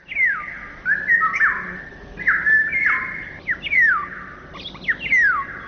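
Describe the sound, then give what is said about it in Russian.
Clear birdsong in a city of repeated sliding whistles and sharp downward-swooping notes, phrased in short bursts over a faint low background hum like traffic; no one speaks. “Птичьи голоса в городах пытаются пробиться к людям сквозь шум автомобилей и бывают слышны здесь совсем ранним утром.”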